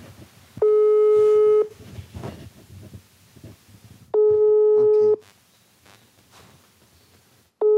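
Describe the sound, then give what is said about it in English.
An outgoing phone call to a 23-year-old Honduran migrant rings unanswered: a loud, steady ringback tone sounds for about a second, pauses, and repeats three times over faint background murmur. “We plan to meet up here, but for the last few days, Josue hasn't picked up his phone. I'm going to call him right now.”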